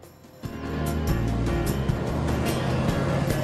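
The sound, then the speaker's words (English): A van and a car pass along a quiet small-town street, their engine rumble and road noise swelling abruptly after a brief quiet moment and staying steady, with no one talking. “A van and a car pass down the quiet town street.”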